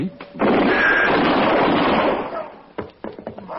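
impact, gunshot

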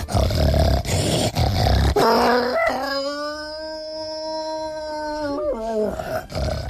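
sound effect, werewolf howl sound effect

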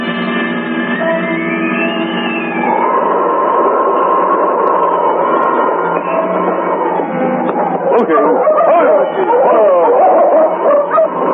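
animal, dog barking and whimpering

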